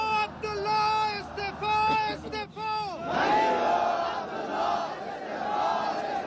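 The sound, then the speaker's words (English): A crowd of protesters in Kabul, gathered in front of the presidential palace in heavy rain and cold weather, chants anti-government slogans in unison demanding President Ashraf Ghani and Chief Executive Abdullah Abdullah step down, loud drawn-out shouted syllables in a repeating cadence, then swelling into a sustained roar of many voices. “The protesters chanted anti-government slogans and demanded President Ashraf Ghani and Chief Executive Abdullah Abdullah step down.”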